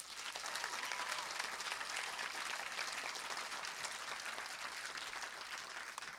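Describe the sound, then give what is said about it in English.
An audience claps steadily for about six seconds as those attending for the first time this year respond, a dense, even wash of many hands with no pauses and no voices heard. “How many people are here for the first time this year? If you are, would you just clap?”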